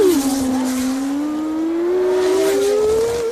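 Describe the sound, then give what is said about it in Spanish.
A voice imitates a racing car engine with a steady, buzzing drone that slowly climbs in pitch, held loud and unbroken for about three seconds. “Hay un eco y tú te subes al eco y haces el coche.”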